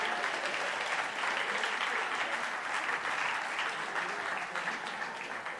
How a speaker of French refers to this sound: Mais on va l'applaudir quand même parce qu'il s'est décidé.